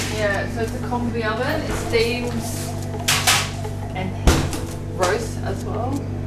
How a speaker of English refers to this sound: So I'm going to put the fish in. Okay. I'm going to put the tray. Hello, steamy oven.